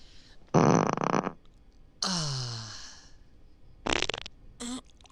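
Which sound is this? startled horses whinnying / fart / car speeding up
fart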